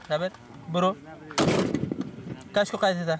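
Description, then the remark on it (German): A single loud, sharp Kalashnikov rifle shot with live ammunition, fired toward an empty field by an armed extra playing a police officer during a film shoot, cracks out and rings off with a rough echo, with people's voices heard just before and after it. “Die Munition ist scharf. Die Schüsse gehen in Richtung eines leeren Feldes.”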